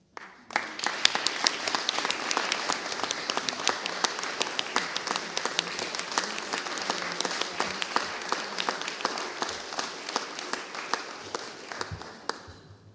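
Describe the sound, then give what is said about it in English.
A church gathering applauds steadily for about twelve seconds as a token of appreciation is presented, dense overlapping claps forming a bright, crackling wash at an even level before tapering off at the end. “Gosh, clapping twice in a day, we'll be getting a name for ourselves.”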